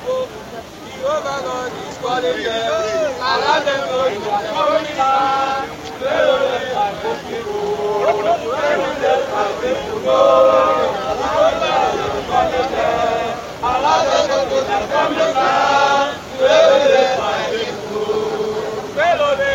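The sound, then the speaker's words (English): A crowd murmuring in St. Peter's compound in Biafra: many overlapping voices blend into a steady, fairly loud babble for the whole stretch, with no single speaker standing out clearly. “You can see crowd.”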